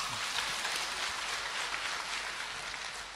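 Steady, dense clapping from a crowd, a bright crackling wash of many hands that holds at an even level for about three seconds with no voices over it.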